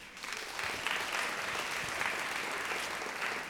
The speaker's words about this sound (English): Okay, clap if you think this was Alito.